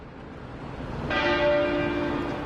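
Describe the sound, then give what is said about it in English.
A single deep bell of Westminster Abbey in London strikes partway through, tolling once every 99 minutes in tribute to Prince Philip, its rich metallic tone ringing out and sustaining over a steady outdoor background hiss, with no one speaking. “Westminster Abbey's bells ring once every 99 minutes in tribute.”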